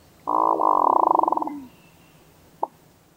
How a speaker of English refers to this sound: That's the hooded merganser.